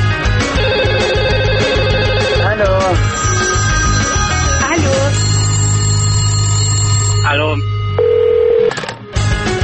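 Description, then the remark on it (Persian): A telephone rings loudly and steadily with electronic tones, layered over a dense, busy backdrop of music-like tones that continues throughout before cutting off near the end. “بله، همکنون توجه شما را به تماس های تلفنی شما با کارشناس واحد ارتباطات مردمی 21C یعنی خود بنده جلب می نماید.”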